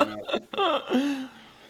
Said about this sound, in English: second burp